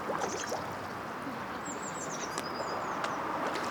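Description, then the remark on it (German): A steady broad wash of lake water, people and car traffic, heard from a bridge around a lake, with a few thin, high bird chirps and whistles rising above it near the middle and start. “Wir hören das Wasser, Vögel, Leute und Autos.”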